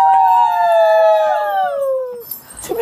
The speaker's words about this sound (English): Well, I have a piece of video of them in the air. I don't have the kissing because it just, right, you got the screaming? Yeah, this is the screaming.